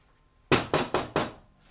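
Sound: knock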